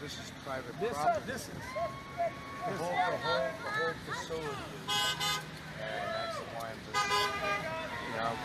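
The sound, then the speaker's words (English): Car horns honk in short, bright bursts, two loud blasts standing out among a busy street scene, while people talk and call out throughout. “The car's in the background, folks, all day long.”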